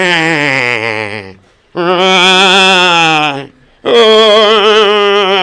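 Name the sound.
sheep bleating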